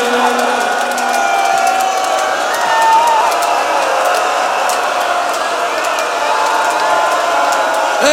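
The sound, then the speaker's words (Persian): A large crowd of mourners weeps and wails together, a dense, steady swell of many voices with occasional sharper cries rising above the sustained sobbing. “جانم ای جانم به این گریه ها”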